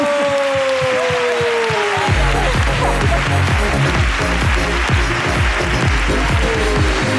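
Audience applause breaks out after a short descending tone, a dense, loud stretch of clapping with rhythmic low thumps running underneath it until the end.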